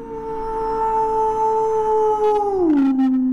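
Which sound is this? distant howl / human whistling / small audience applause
distant howl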